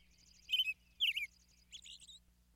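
A songbird sings three short phrases of bright, high chirps and rapid trilled notes, moderately quiet and alone over a faint low hum.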